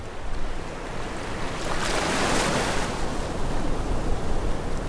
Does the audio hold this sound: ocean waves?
yes